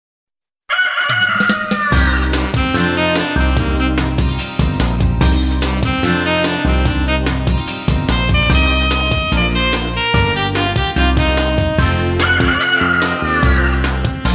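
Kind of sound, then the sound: bird, rooster crowing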